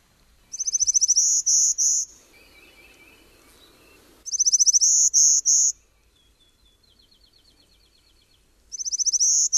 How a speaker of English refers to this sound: But let's go up to the mountains now, where we can hear the sound of the golden-winged warbler.